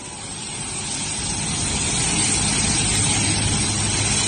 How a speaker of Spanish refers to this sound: Así sonaba uno de los Super Puma tomando tierra en el Hierro.